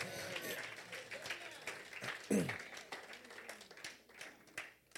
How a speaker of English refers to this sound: Clap for the Lord Jesus.